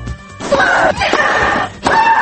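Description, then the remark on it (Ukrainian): A tennis player at the Wimbledon tournament lets out loud, strained shrieks with each stroke, three sharp cries in quick succession, each starting with a hard smack of the ball and ringing piercing. “Але сьогодні ми розповімо не про успіхи турніру, який завершився в неділю, а про те, як на ці успіхи впливали особливо гучні стогони та крики спортсменів.”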